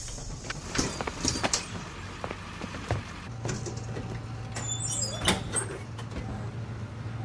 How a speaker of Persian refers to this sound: این اتوبوس مدرسه است.